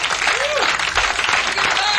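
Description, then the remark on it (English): A dense, steady wash of audience applause and cheering, loud throughout the two seconds, with a couple of rising-and-falling whistles or shouts cutting through the clapping. “Go! Make some noise.”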